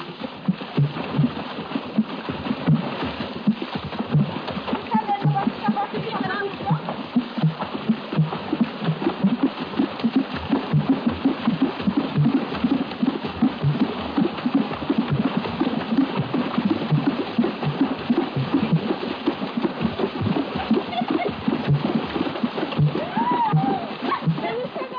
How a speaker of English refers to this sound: the women of a village dance hip-deep in a nearby pool. While dancing, virtually naked, they beat the water with their cupped hands, thereby producing the different rhythmic tones you hear. Of necessity, no water drum passage is a long one.